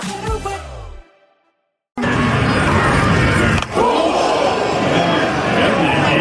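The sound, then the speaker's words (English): A 95-mile-an-hour fastball cracks against a batter's head at a baseball game amid a loud, steady stadium crowd roar, followed by the crowd's continued noisy reaction; a brief musical tone and a moment of silence come before it. “that was a 95-mile-an-hour fastball that hit Fernando Tatis Jr. square in the head”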